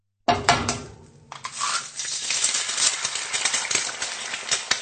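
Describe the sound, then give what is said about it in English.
Eggs frying in a pan: after a brief clatter at the start, a steady, dense sizzle with crackling pops holds at an even loudness to the end. No one speaks. “She's frying eggs.”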